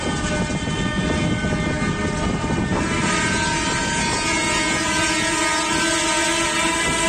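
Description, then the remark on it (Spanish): A convoy of more than a hundred tractors in a protest demonstration through the centre of Santander, Cantabria, Spain, ending at the Government Delegation, rumbles loudly and steadily, and after a few seconds sustained horn blasts sound over the engines. No one speaks. “Son los tractores que han recorrido el centro de Santander”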